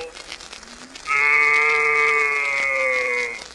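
A single long cow moo, loud, sustained steadily for over two seconds before cutting off, with faint background noise before it starts.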